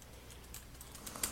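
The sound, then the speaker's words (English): Soft keyboard typing of notes, a few light, irregularly spaced key clicks over a quiet background hum, faint, with no one speaking. “I'm typing it in my notes that I'll be talking about vibrations.”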